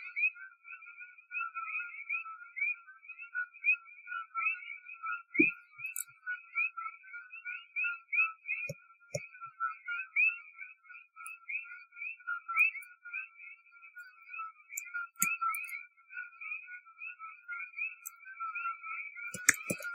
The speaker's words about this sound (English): it happens to be right in the frequency range that these frogs make. So I think these frogs are actually opening the third eye. All right, check this out. Hear this.